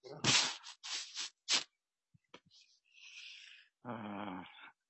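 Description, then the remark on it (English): A dog growls in several harsh bursts, then lets out a thin, high whimper before a longer, rumbling growl ends the sequence, with brief quiet gaps in between. “I've got a problem with my dog. Just a second.”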